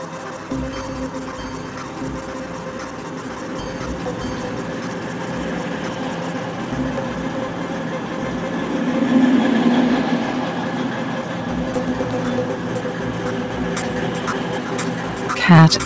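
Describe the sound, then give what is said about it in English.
A CrossCountry service to Bristol Temple Meads pulls into platform 6 at Crewe station with a steady low rumble and droning engine tones that swell midway, then settle, with indistinct voices and a brief louder clatter at the end. “Train is arriving at platform number 6, CO6 38, cross country service to Bristol Temple Meads.”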